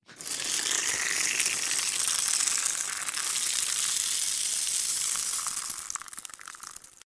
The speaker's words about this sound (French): Quelqu'un qui fait pipi. Une femme. Une femme qui fait pipi. Effectivement